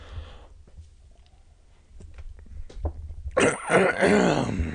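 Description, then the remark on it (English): A man loudly clears his throat as he comes into a hall, a harsh, raspy rumble after a few quiet seconds of faint clicks and shuffling, with no speech. “She held her breath as her father came into the hall, clearing his throat loudly.”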